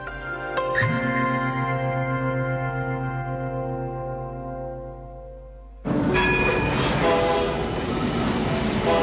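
A rack railway train to Vall de Núria sounds its horn in a long, steady blast, followed by the loud rumble and clatter of the train running along the track.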